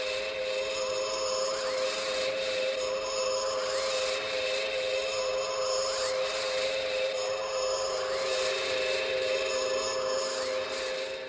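A sci-fi flying saucer engine effect made by Barry Gray of Gerry Anderson's team: a steady electronic drone with a strong mid-pitched hum, overlaid by shimmering high tones that sweep in a repeating cycle every few seconds. No one speaks.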